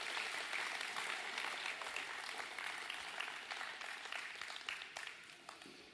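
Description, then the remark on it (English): An audience applauds as the kids and youth are dismissed, many hands clapping in a dense, sustained wash that stays fairly loud and fades slightly toward the end, with no one speaking over it. “One, two, big round of applause and walk.”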